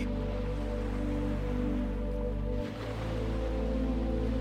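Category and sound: nature, ocean waves rushing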